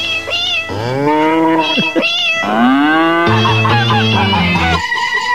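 Cat meows pitched and strung together into a sung rock melody, a run of loud, drawn-out, sliding notes following one another closely, with a low sustained musical backing underneath in the second half.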